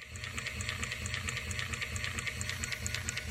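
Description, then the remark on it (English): A robotic chewing machine in a lab chews food inside it at over 260 chews per minute, its low mechanical thumping locked in a steady, fast rhythm with sharp, regular clicks on top, running continuously without any voices. “Because I was eager to find out more how awful does it sound, I asked Alexis to record the chewing language of his robot.”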